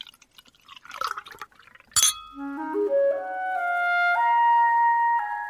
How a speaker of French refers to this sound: Room service. C'est lui qui retire le bouchon. Et qui remplit les verres.